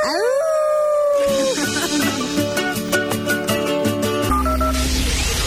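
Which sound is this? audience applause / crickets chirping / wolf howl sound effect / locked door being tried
wolf howl sound effect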